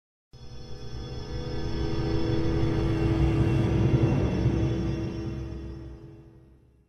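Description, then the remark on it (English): A deep, rolling rumble of thunder from a storm swells in suddenly, builds to a heavy roar over several seconds, shaking the windows, then slowly fades away. It sounds loud and alone, with no voices. “Another clap of thunder shook the windows.”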